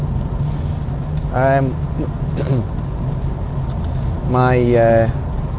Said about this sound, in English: I'm in the car driving to work, it's 3 degrees centigrade, travelling currently at 35 miles per hour on the Edinburgh City Bypass, A720. It's supposed to be very busy this morning for some reason.